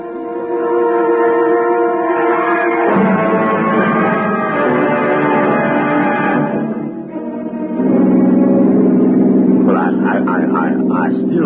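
car engine running

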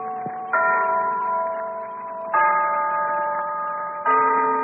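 town hall clock chiming

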